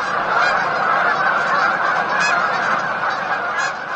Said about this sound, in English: It's the sound that you encounter there. And at a refuge, the sound from thousands of geese in this instance it's amazing.